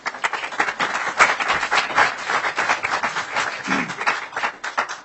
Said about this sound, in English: Can we please hold our applause until the end? Thank you.